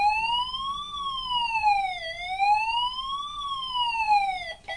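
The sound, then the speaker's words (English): A toy fire engine's electronic siren wails steadily up and down in slow, even sweeps, fairly loud, with no talking over it. “Is there a fire somewhere? No, he's putting his ladders up.”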